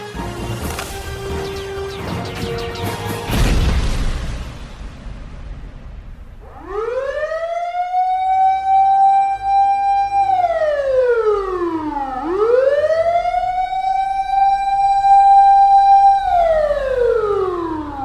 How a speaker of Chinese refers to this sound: 学长学长，那还有警报声啊！ 哎呀，卖紧张啦，赶快是演习啦！